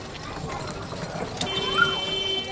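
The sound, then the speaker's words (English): Donkey cart hooves clop along a narrow alley in a garbage-recycling neighbourhood of Cairo, Egypt, in a quick, uneven rhythm, amid busy street ambience with faint background voices and a brief high whine near the end. “The alleyways here are just wide enough to accommodate small vehicles and donkey carts, lots of donkey carts overloaded with mammoth bundles of trash.”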